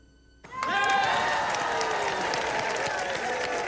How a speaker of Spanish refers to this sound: Ay, yo estaría aplaudiendo, pero de miedo, de miedo. No sé cómo se atreven a aplaudir con ese cuento.